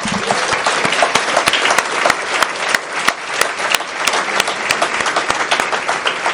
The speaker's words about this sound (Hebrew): אנחנו מאוד שמחים לראות את כולם, כל מי שהגיע. קודם כל, מחיאות כפיים לכם.